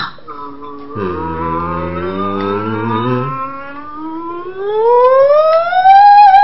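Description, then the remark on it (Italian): A closed-mouth hum on an M, done as a vocal warm-up, slides smoothly from the lowest part of the vocal range upward like a siren, a warm vocal glide with steady harmonics rising gradually and growing louder toward the end. “una cosa velocissima che si può fare, quella chiamata la sirena, quindi sempre con la M a bocca chiusa.”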